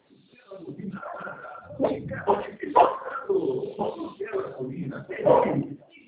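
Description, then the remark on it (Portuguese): A dog barks several times in irregular bursts, heard during a phone call, mixed with muffled voices, a passing truck and background noise over a narrow, phone-like line. “Cachorro latindo, caminhão passando, olha.”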